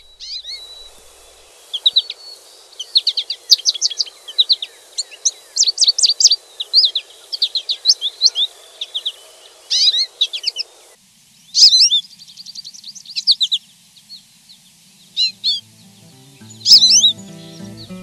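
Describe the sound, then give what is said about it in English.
An American goldfinch in a meadow sings a long, rambling series of bright twittering and warbling phrases, high-pitched, with brief pauses between bursts and no voices. “Another small bird we'll hear in the meadow is the goldfinch. It sings my favorite song, Potato Chip, Potato Chip.”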